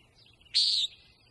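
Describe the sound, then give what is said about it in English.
A common nighthawk gives one short, buzzy, nasal call, sharp and fairly loud, standing alone over a faint, quiet background hum. “The common nighthawk is a really graceful, aerodynamic bird.”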